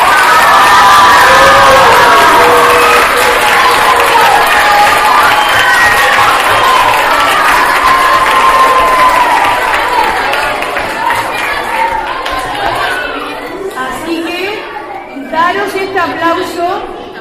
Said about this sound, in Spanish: Porque este aplauso es vuestro.